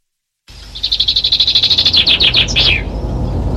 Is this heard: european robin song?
yes